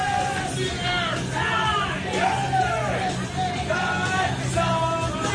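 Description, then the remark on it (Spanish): Members of a band and a supermarket deli clerk loudly shout-sing a classic song together in a supermarket in Los Angeles, their strained, wavering voices rising and falling continuously over a steady hum of background noise. “… a grito pelado con el dependiente de la charcutería.”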